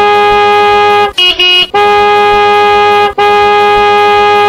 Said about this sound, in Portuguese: Todo cabo que passar vai dar uma buzinada. Vamos começar a contar.